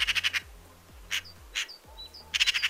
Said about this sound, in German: Also, ich stelle euch immer wieder Vögel vor, damit ihr euch euren Kindern erklären könnt draußen, was da bei uns in Rheinland-Pfalz so zwitschert. Und die Elster klingt so.